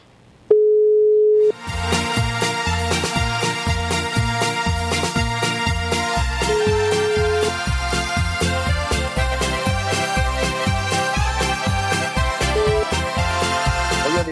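As a radio DJ places a phone call on air, a steady telephone ringing tone sounds for about a second. Then loud rhythmic music with a steady beat takes over while the same tone returns briefly underneath it. No one speaks.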